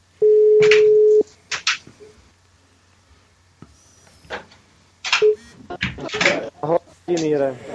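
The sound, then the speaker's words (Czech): A single loud, steady ringback tone sounds for about a second on an outgoing phone call, followed by clicks, handling noises and voices speaking. “Tak už nám to tady vyzvání.”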